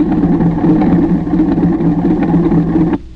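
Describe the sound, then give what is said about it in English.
An old small plane carrying two people drones steadily at a low, buzzing pitch as it comes down to land, holding even and loud for about three seconds before abruptly dropping off near the end. “I can see quite well that there are two people in that plane, and one of them's your son”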